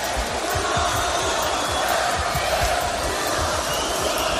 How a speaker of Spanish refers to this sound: toda la fiesta quedó eclipsada por unos pocos que realizaron cánticos desagradables en el momento en el que Gaby, micro en mano, se dirigió a la afición española.